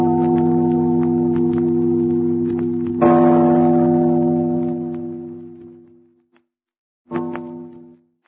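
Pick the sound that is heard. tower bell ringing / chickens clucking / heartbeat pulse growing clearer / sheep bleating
tower bell ringing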